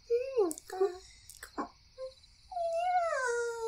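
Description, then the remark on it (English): A few short, whiny, squeaky vocal sounds, then a long drawn-out yawn from someone feeling sleepy, with a high, wavering, moaning pitch that rises and slowly falls away. No one speaks. “Why are you yawning”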